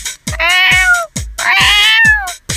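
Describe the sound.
A person's voice imitates a cat with two loud, drawn-out meows in quick succession, each rising and then falling in pitch, with no other talking. It is one of a series of quick voice-acting prompts.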